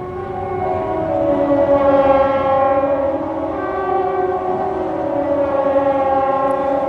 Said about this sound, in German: Jedes Jahr am ersten Mittwoch im Februar gibt es in der ganzen Schweiz einen Sirenentest. Er soll sicherstellen, dass der Alarm, den die Bevölkerung in einem Ernstfall soll vor Gefahren warnen, auch funktioniert.